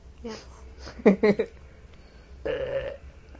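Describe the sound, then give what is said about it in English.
A short burp with a few gulping pulses, followed moments later by a longer low belch-like rumble, over a faint steady background hum. “Excuse me. I burped.”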